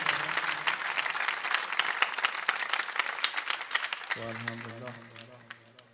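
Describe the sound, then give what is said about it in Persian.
An audience claps, a dense, steady burst of many hands that carries for about four seconds, then thins out and fades as a sustained tone rises underneath. “شب قشنگ برای خودت بزن.”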